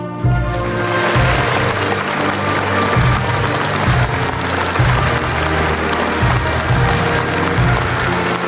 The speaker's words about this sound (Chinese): 全体起立，让我们再次用热烈的掌声向国家勋章和国家荣誉称号获得者致以崇高敬意。